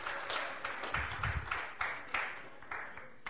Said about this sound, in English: You can go ahead and I believe that deserves a round of applause, don't you?